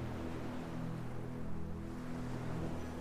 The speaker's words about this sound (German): Und du beobachtest die Wellen, wie sie kommen und gehen. Du fühlst dich richtig wohl an diesem schönen Ort am Meer. Verbinde nun deinen Atem mit dem Rauschen des Ozeans.